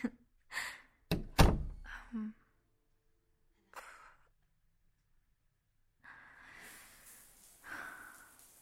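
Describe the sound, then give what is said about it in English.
A door swings shut with a solid thud, preceded and followed by soft rustling and breathy sounds. “Okay, I'll close the door now.”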